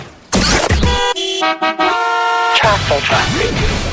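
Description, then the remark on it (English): A car horn honks loudly in a sustained blare with a couple of brief breaks, used as a sound effect introducing a radio traffic segment, bracketed by energetic voices talking just before and after it. “It's time for traffic, your favorite time of the day.”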